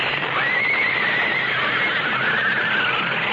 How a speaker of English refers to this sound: Coming off the bridge, the lead horse panicked, pulling the whole rig to the right, so that what was coming was inevitable.